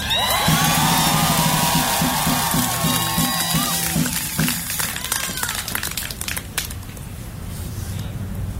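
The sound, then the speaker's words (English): A crowd of over 1,000 people screams and shouts nonstop, a loud, dense wall of overlapping voices with piercing high shrieks rising out of the din early on, then a rougher roar that holds to the end. “Because even though all of that is happening, there is, I don't know, 1,000+ people here screaming at the top of their lungs saying that they're not going to shut up.”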